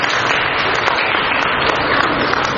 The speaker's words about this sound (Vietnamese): Rồi, cảm ơn chị một tràng pháo tay.